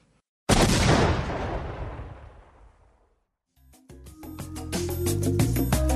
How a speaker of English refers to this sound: Love hearing that explosion. That vacuum just is a bomb.